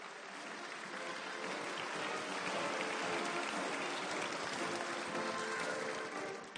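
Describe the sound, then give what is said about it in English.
An audience at a WBCCI event applauds the introduced international president and first lady steadily for several seconds, a dense, even wash of many hands clapping at a fairly loud level that holds constant before easing slightly at the end. “Let's give them a round of applause, folks.”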